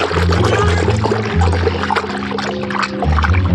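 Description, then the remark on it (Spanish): Water churns and splashes steadily for several seconds as swimmers quickly submerge together on their backs near a dock, a dense bubbling rush, with a low, droning musical tone shifting underneath and no voices. “se revuelve con movimiento rápido, sumergiéndose con sus compañeros en espalda.”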